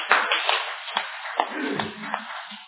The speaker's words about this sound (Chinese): 那掌声归荣耀给主。